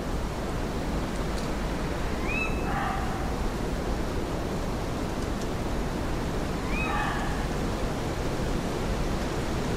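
A bitter November wind rushes steadily through Foxley Wood on a cold night for the whole stretch, a dense, unbroken roar, with two brief high calls rising faintly above it several seconds apart.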